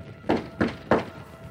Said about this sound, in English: I rapped on the door again.